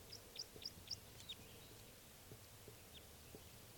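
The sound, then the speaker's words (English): A male bird's flight song: four quick, evenly spaced high chirps in the first second, then a fainter trailing note, set against a steady hiss of outdoor background noise. “Oh, and here comes another male in flight song.”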